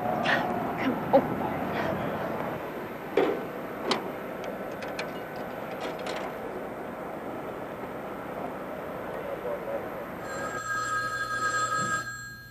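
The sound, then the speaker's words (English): Low room noise and a few sharp clicks, then, near the end, a steady electronic telephone ring starts up, moderately loud, with no one talking. “Can you wait till I make a phone call?”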